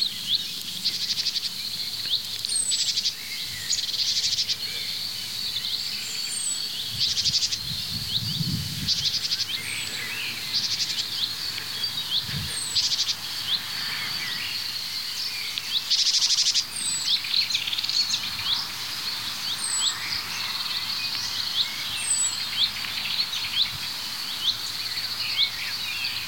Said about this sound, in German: Ja, wir hören die Meise vorher. Also vorher, vor diesem Huit.